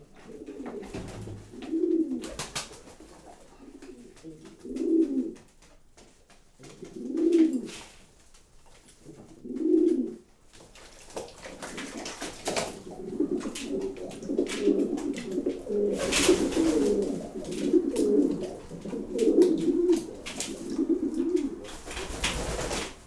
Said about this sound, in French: Dans le bain, les deux qui ont pris position, c'est le couple de Carnot. Ce sont des pigeons généralement un peu batailleurs, mais bon, ils se sont bien adaptés à notre pigeonnier.